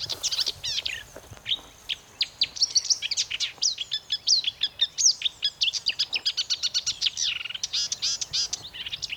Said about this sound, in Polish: Swoim śpiewem nie wyróżnia się spośród innych ptaków, tak jak upierzeniem, tak na pierwszy rzut ucha. Cichy ten śpiew, ale za to jaki. No proszę posłuchać.